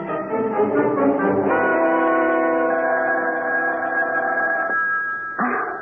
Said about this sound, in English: Wake up. The phone. Oh, my gosh, it's 3 a.m. Answer it